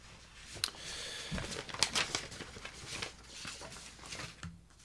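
Irregular rustling and crinkling of a printed sheet of paper being handled, with quick papery crackles and soft shuffles scattered across a few seconds, no voices.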